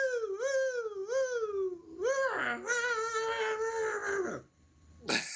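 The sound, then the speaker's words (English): A person imitates a hound dog howl, a long wavering vocal wail that rises and falls in pitch, swelling into a louder, strained middle section before trailing off, with a short burst of noise at the end. “Michigan, I don't know how many hound dogs Michigan has, but we're just going to open it up to you to close out our show with your best old hound dog howl.”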